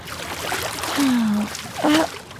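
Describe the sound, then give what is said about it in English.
Water splashing and sloshing in a bathtub behind a canvas partition as the bather stands up to get out of the tub, with two brief tonal, voice-like sounds rising over the watery noise. “As he did so, he heard more splashing from the other side of the canvas partition.”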